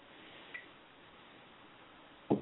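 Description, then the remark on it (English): Near silence with a faint click early on, then a single short, wet sip of water near the end. No one speaks. “So I'm just going to have some water.”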